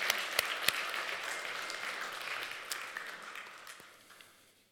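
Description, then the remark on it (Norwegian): A crowd applauds steadily for a group of young boys, a dense wash of many hands clapping with a few sharper individual claps standing out, tapering off toward the end. No one speaks. “Koselig at det skal så lite til for dere klapper.”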